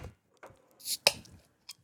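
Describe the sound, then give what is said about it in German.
Beer glasses being handled: a few soft knocks and scrapes, then one sharp, bright clink with a brief ringing tone, and a final light tap, with no talking. “Hier sind Gläser.”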